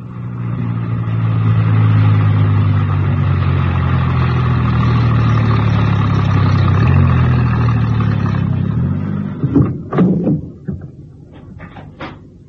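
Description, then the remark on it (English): A van engine drones steadily at a low, rumbling pitch for several seconds as it is driven into a small printer's yard on the west side of a town, then winds down, followed by a few sharp clunks and knocks. “My star operator was enjoying himself hugely and whistled happily as he drove the van into a small printer's yard situated on the west side of the town.”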